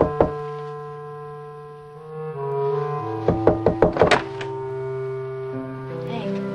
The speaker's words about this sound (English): Warren walks up to a door and knocks.